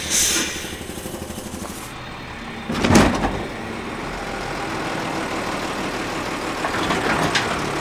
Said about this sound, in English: his truck is picking up giant trash cans with a mechanical arm and dumping the contents into the truck